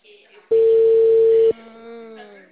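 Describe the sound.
A single loud, steady telephone ringing tone on an outgoing call, a mid-pitched beep lasting about a second, with a person talking quietly just before and after it.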